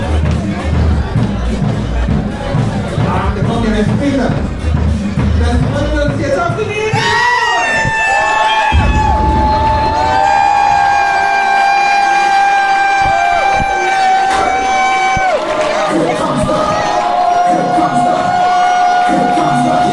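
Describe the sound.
A dense, loud crowd of fans at a stadium in Ingolstadt, Germany, roars and cheers throughout, with shouting voices blending into one wall of noise and long, sustained horn blasts sounding over it through the second half.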